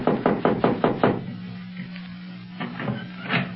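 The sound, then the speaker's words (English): A quick run of about six firm, evenly spaced knocks on a wooden door, then a short pause before a few softer knocks follow. “I'd hate to knock and have an Arab open the door and start jabbering Arabian at us.”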